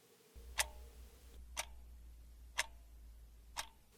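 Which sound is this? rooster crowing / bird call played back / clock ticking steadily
clock ticking steadily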